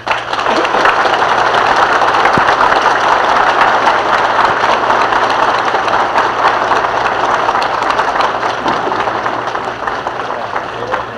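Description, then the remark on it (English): A large crowd at the Pennsylvania Railroad Station in Harrisburg, Pennsylvania, applauds and cheers steadily for about eleven seconds for President Harry S. Truman, a dense wash of clapping with a low, constant rumble like an idling engine underneath. “Truman, as he spoke to an assembled crowd here in Harrisburg, Pennsylvania, in the Pennsylvania Railroad Station, on his last day of the cross-country tour.”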